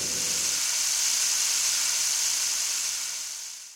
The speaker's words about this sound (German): Dafür tanzte der Regenmacher mit einem hohlen, von Ameisen zerfressenen großen Ast in der Hand ums Feuer herum. Dieses Holzinstrument heißt deshalb noch heute Regenmacher und rauscht so schön wie ein Sommerregen.